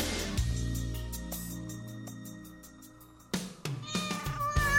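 A cat meows clearly several times, its calls rising and falling in pitch with short pauses between them; no one speaks.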